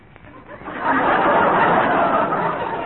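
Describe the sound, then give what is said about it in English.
A voice imitates a crocodile with a sustained, rough, growling rasp that swells after a short quiet start and holds loud for a couple of seconds. “The terrifying sound of the crocodile.”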